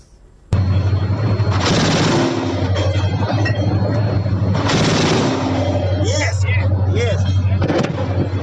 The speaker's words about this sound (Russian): Прежде чем задать следующий вопрос, я предлагаю посмотреть работу зенитной установки «Гепард» во время одного из последних обстрелов.